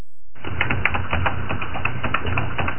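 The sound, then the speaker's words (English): Rapid, steady clicking of keys on a computer keyboard, fairly loud, with irregular taps continuing throughout and no voices. “Are you still typing? The typing sound has returned, so we could just issue the reminder for mute.”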